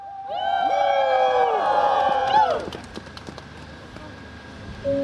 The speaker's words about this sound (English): Around 50 people cheer as they stage a peaceful protest beside the government building in Riga at the beginning of April. The demonstrators have arrived from Vatsbybarg, a village of just 500 people in the eastern region of the country.